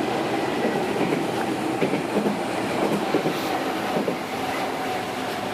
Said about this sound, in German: Dafür dürfte in dieser Minute hier irgendwo nochmal wieder ein Zug und eine Gegenrichtung Zug vorbeikommen.